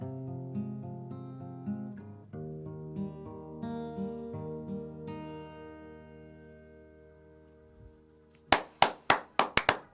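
Sustained tonal music dies away, then a couple of people give a brief, sparse round of applause: about seven loud, sharp hand claps in an uneven rhythm.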